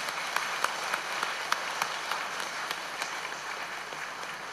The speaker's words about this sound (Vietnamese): Hãy dâng cao một tràng vỗ tay thật lớn nào.